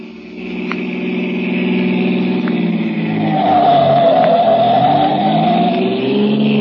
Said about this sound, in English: Faster, the colonel's in a hurry. The car's going as fast as it can, Lamont.